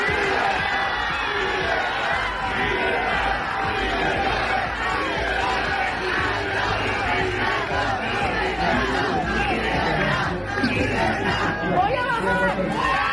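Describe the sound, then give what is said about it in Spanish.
A dense crowd in Oslo, Norway, applauds, cheers and shouts together in a continuous, loud roar, voices overlapping with rhythmic chanting of "libertad" (freedom) rising through the din, sustained for the whole stretch, as groups welcome a Venezuelan opposition leader arriving at night after the Nobel Peace Prize. “En la capital noruega, grupos de personas la han recibido entre aplausos al grito de libertad después de que ayer recibiera el Premio Nobel de la Paz que tuvo que recoger su hija.”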